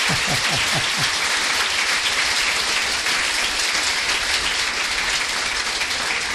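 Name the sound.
audience applause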